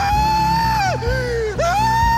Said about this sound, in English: screamed